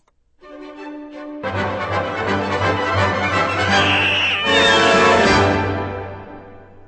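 A lush orchestral waltz played on Kansas Public Radio swells in after a soft opening, with sliding string glissandi that mimic cat meows rising and falling over the ensemble before the music fades away.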